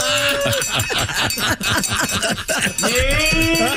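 A cow named Bessie, brought into the studio, moos loudly in drawn-out lowing calls that rise and fall over about four seconds, with a busy, cluttered background of other noise underneath.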